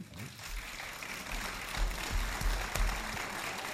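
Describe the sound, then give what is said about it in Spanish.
An audience applauds steadily for a few seconds to welcome the next speakers at a talk: a dense, even wash of many clapping hands with a few duller low thumps mixed in, and no one speaking. “Os dejo con ellos, darle un fuerte aplauso.”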